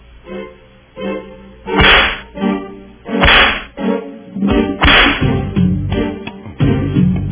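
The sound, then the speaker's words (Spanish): Three sharp whip lashes crack out at roughly even intervals, loud, over a steady low droning musical background with no one speaking. “Démosle los latigazos al gobierno y Hacienda, ¿verdad?”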